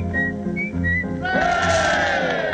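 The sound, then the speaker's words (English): A person whistles an imitation of a bullfinch call: a few short, clear piping notes at a steady pitch, followed by a louder, fuller wash of sound rising underneath. “And now the bullfinch.”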